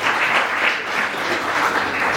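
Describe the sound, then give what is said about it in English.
A crowd applauds the audio engineer and cameraman, many hands clapping together in a dense, continuous wash of sound that stays fairly loud and even throughout. “Let's extend the round of applause to”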